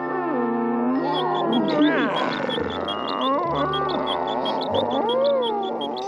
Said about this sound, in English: You're a brave man handling that lion, mister.